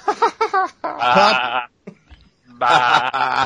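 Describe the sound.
A person's voice mimics a sheep, starting with a few quick, clipped bleats, then two long, quavering, nasal baas separated by a short pause. No words are spoken.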